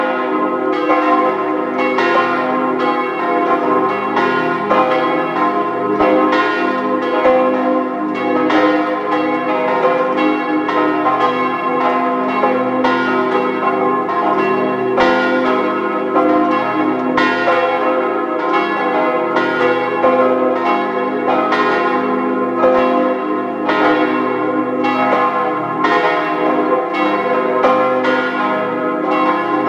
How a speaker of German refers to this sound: Es ist 12 Uhr. Sie hören die Glocken der Stadtpfarrkirche St. Hippolyt in Zell am See im Land Salzburg.